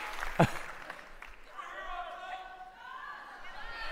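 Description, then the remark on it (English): A live audience at a beer-sampling show cheers and whoops together, sustained voices rising over a sharp clap-like burst near the start, with the noisy background of the audience throughout. “Were people just cheering tug?”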